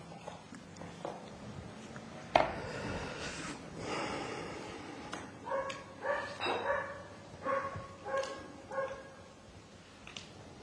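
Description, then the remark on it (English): A neighbor's dog barks repeatedly, a sharp opening bark followed by a run of short, irregular yips and woofs over faint background noise. “And our neighbor dog welcomes everyone.”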